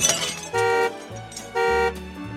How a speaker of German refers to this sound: Dieses hässliche Geräusch, verbunden mit einem rhythmischen Hupen, hat Jeff Levine erschreckt. Levine wohnt im US-Bundesstaat New Jersey und was da gehupt hat, war sein in der Einfahrt geparktes Auto. Die Windschutzscheibe war zersplittert.